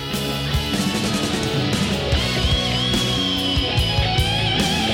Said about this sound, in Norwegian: Mye blues. Det jo den der … gitar soundet der.